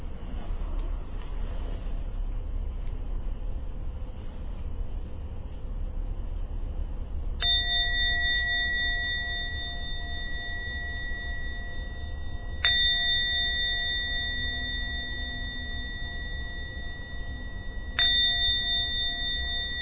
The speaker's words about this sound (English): going to ring the bell 3 times, and then we end the meditation for tonight.